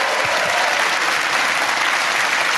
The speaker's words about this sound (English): Ladies and gentlemen, give a massive round of applause. Olga Koch!